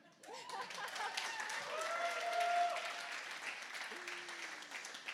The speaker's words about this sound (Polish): Moja siostra, oprócz tego, jak klaskacie, to z sercem.